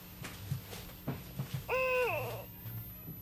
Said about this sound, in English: This is a great gray owl.